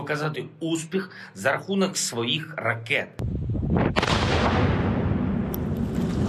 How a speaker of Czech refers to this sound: Tyhle exploze na svědomí nepřítel nemá. Ukrajinští specialisté likvidují nevybuchlou munici a miny, od kterých čistí pole a lesy kolem Kyjeva. Práce je to nebezpečná a zdá se nekonečná.